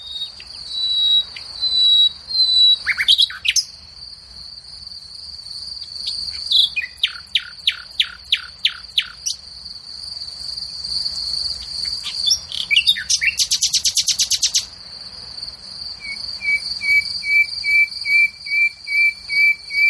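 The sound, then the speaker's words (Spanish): A nightingale sings loud, varied phrases: rapid repeated notes, a buzzing trill and clear whistles, with a steady insect chirring running underneath throughout and no talking. “O sea, el ruiseñor lo que tiene es muchos registros, ¿no?”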